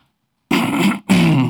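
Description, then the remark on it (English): Someone clears their throat in two rough, raspy bursts, each about half a second long with a brief break between them. It is fairly loud and follows a moment of silence. “I don't know if that's me or the mic clearing, but either way, you guys can hear me.”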